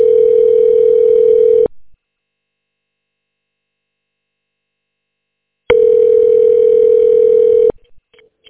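A telephone ringback tone sounds over the line: a steady, buzzy two-second tone, a long silent gap, then the same tone again, loud and alone with no voices.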